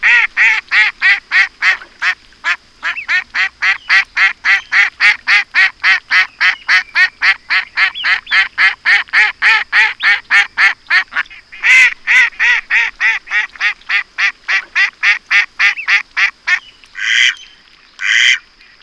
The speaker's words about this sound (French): ça, c'est une canne et ses petits qui barbotent dans la mare. Comme elle fait can-can-can, on dit qu'elle cancane. La canne lance aussi de grands cris, comme si elle riait.